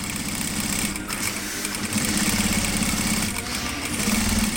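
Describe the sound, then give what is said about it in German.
A sewing machine needle rattles steadily in rapid, continuous stitching bursts as a woman's foot works the pedal and she pushes two pieces of fabric over the needle plate at the Hira school; a busy mechanical clatter with a low motor hum underneath and no voices. “Ihr Fuß auf dem Pedal der Maschine lässt die Nadel rattern.”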